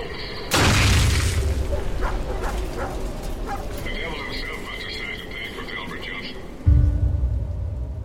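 explosion

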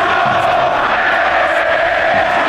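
stadium crowd chanting

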